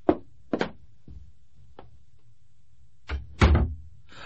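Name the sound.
door being shut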